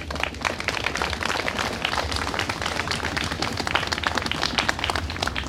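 Steady, dense applause from a crowd in Ipse in the eastern Altmark, many hands clapping at once in a continuous, fairly loud wash of sharp claps that holds evenly for several seconds, with no voices standing out.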